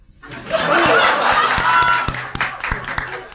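A live audience in Phoenix bursts into applause to vote on a final decision, dense clapping swelling quickly and holding steady with some laughter and cheering mixed in, then thinning out toward the end.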